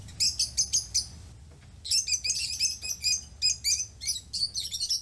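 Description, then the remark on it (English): Shrill, rapid chirps from a rosy-faced lovebird, a bright green parakeet-type bird, come in quick bursts with a brief pause, loud over a low rumble of background noise. “That was a rosy-faced lovebird, a bright green parakeet-type bird you might have seen flying in your local city park.”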